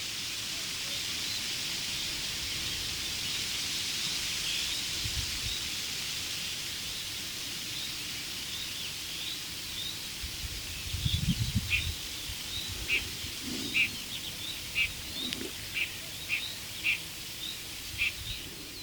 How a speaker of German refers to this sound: Vielleicht hören wir auch in der Ferne noch den Kuckuck, diesen außergewöhnlichen Vogel.